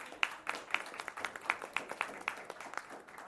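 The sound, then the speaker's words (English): A round of applause from a small group after a speaker's report: dense, crisp clapping that keeps a steady patter for about three seconds, with a few sharper, louder claps standing out. It is fairly soft overall, with no talking. “Round of applause.”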